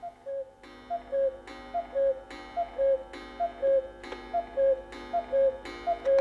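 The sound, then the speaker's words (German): A cuckoo clock hanging on a wall calls out its two-note cuckoo about nine times in a steady rhythm, each call with a mechanical clack, clear with no voices. “Sie starrt auf die Kuckucksuhr an der Wand.”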